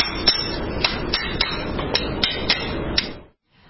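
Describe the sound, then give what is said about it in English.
A hammer taps repeatedly at a horse's shoe to loosen it before the shoe is pulled off, about ten sharp, bright strikes in a fairly steady rhythm over a constant low hiss, then the sound cuts off. “And then what we want to do is loosen the shoe.”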